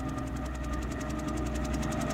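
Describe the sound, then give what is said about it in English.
A helicopter coming in from the east to land at a house, its steady, rapid rotor chop pulsing about eight times a second over a constant low engine rumble, moderately loud and alone, with no voices. “What's that noise? Father? The helicopter.”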